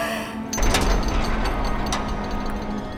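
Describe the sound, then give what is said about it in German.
A gate's closing mechanism grinds into motion after a brief pause, a steady ratcheting clatter of gears with sharp clicks over a low, continuous rumble, with no voices. “Schließe dich, Tor!”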